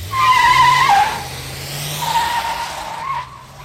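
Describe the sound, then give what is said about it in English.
A car driven by a woman peels out with a sharp, high-pitched tire squeal over a low engine drone, heading for the Tiki Tiger, a seedy spot on the interstate; the screech eases, flares again, then tapers off as the car speeds away. “She speeds off to a wart on the seedy underbelly of the interstate, known as the Tiki Tiger.”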